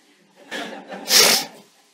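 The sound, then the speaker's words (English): A single sneeze: a short, breathy intake builds up, then a sharp, hissing burst of air explodes out and trails off quickly, with no talking around it. “God bless you, brother. You did it.”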